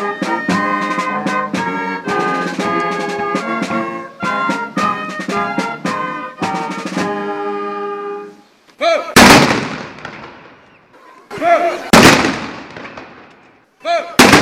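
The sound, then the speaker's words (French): Ceremonial cannon salvos boom out in a harbour to close a late-morning celebration of the 1 March 1848 revolution: after a stretch of brass-band music, three loud, separate blasts ring out several seconds apart, each followed by a rolling, echoing rumble. “En fin de matinée, ce sont des salves de canons qui ont retenti dans le port pour clore la manifestation.”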